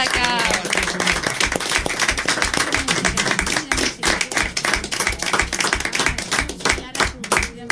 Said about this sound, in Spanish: Un aplauso para Radio Nicosia nuevamente.